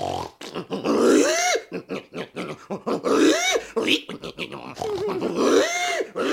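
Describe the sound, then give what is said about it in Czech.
A voice mimics a pig's grunting roar in three long, rough bursts, each rising into a squealing, throaty snort, loud with brief breaths between. “A věřte nebo nevěřte, prasátko se také ještě trochu leklo a svůj hlas lvovi půjčilo.”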